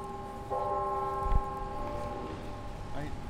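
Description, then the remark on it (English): A university clock tower chimes at a campus garden about an hour west of Chicago during watering time: one sustained bell tone humming and slowly fading over outdoor background noise, with a faint voice near the end. “He shows off the free-to-pick gardens as the university's clock tower chimes.”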